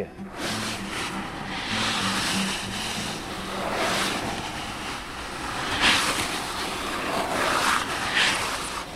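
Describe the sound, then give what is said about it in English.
A surf sound effect for a storm sequence in a play, made by tilting a box filled with cat litter: broad, hissing washes that swell and recede in slow waves, with a few brighter gritty rushes near the end. “There is a storm sequence in the play, and so getting the sound of surf is kind of interesting. That there's just sort of a box filled with cat litter, frankly”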